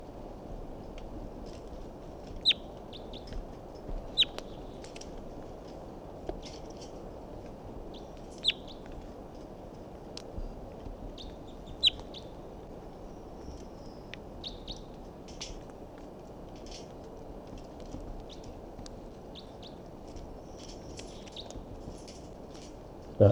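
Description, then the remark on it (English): A wild bird up in a big pine tree above a net gives short, high chirps at irregular intervals, some single and some in quick pairs, over a steady low hiss of background noise. No one speaks. “So recording, this is the vocalizations of a wild bird that's here up in the big pine tree above the net.”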